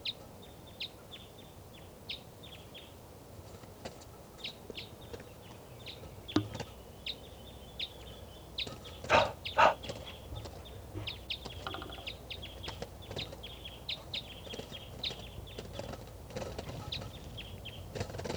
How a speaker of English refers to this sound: So recording, that wild bird is still here. I think it's a lone female. And she's up in the trees here by the truck, and she's coming down.